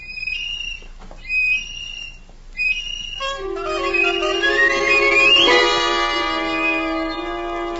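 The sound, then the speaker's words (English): A little tin whistle is blown in a house: a few short, shrill toots, then a long, loud, sustained note with a squealing rise partway through, with no one talking. “But at the time I felt persecuted, and it made the little tin whistle seem more important to me than ever.”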